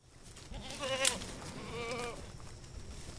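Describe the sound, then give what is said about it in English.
Two wavering goat bleats sound one after another, quavering, with a brief high squeal in the first, from goats clearing brush in a backyard in Milford, southeast Michigan; a low outdoor rumble continues underneath. “They call their service all-natural brush clearing, and this backyard in Milford is the goats' last job for the season.”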